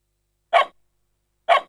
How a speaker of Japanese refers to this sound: あら、捨て犬かしら。どうしたの？お母さんは？お腹が空いてるの？